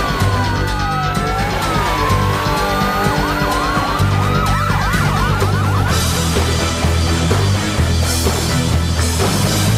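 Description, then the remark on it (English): A police siren wails and then yelps in quick rising sweeps, blended into a loud, dense music track with a heavy, steady bass beat throughout. “police siren still there.”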